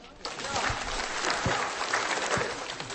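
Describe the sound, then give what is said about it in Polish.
An audience at a Mass breaks into applause for the band, dense overlapping clapping that starts quickly and holds at a steady, fairly loud level for the rest of the few seconds, with some voices mixed underneath. “Uwaga, uwaga, 3 wielkie oklaski!”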